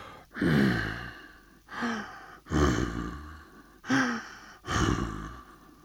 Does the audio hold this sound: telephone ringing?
no